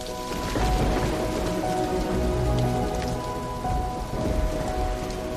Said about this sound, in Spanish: Llovía y hacía frío en la calle.